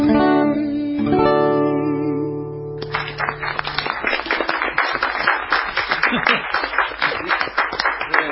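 A sustained musical chord rings out and fades, then an audience breaks into steady, dense applause that keeps going strongly to the end.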